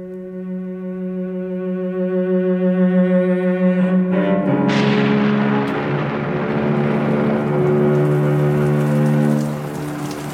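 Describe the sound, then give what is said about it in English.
A steady low humming drone plays alone at first, then heavy rain bursts in as a dense, hissing downpour and keeps pouring over the continuing hum. No clear thunder rumble stands out. “We shall be soaked. We must have walked half day. Dripping from the gutter.”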